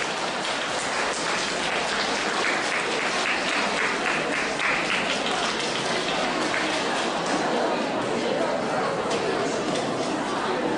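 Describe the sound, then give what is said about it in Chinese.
Sustained audience applause welcoming Lu Junhong to read totems, a dense, steady wash of many hands clapping at an even loudness throughout, with a faint murmur of voices mixed in beneath it. “现在请用最热烈的掌声恭请我们尊敬的卢军宏台长为我们慈悲看图腾。”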